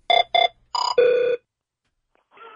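The Don and Mike show's hotline telephone rings in a series of short, loud electronic trill bursts, two quick pulses followed by a longer one, then a faint hint of a voice at the very end.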